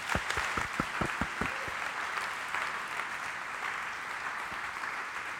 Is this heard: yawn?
no